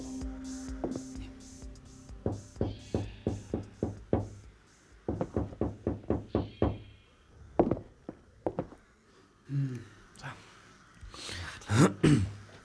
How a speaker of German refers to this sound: klopfte an die verglaste Eingangstür.